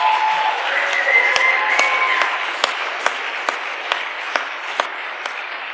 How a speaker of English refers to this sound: And we need to applaud one more time.